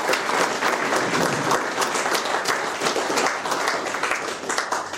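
A steady wash of audience applause fills the whole stretch, many hands clapping at once in a dense, sustained patter that stays loud and even throughout.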